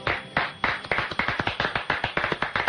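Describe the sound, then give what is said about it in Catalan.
A studio audience claps together in a steady, fairly quick rhythm, the sharp hand claps overlapping into a dense patter of applause with no voices over it. “Un aplauso, venga, vamos a aplaudir todos aquí.”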